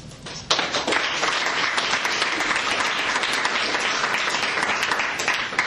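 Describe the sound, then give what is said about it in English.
A crowd bursts into sustained applause for three finalists, dense clapping at a steady, loud level for several seconds after a brief quiet start. “All right, big round of applause again for our three finalists.”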